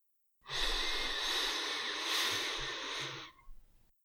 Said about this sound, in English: So breathing in for a count of four, through your nose.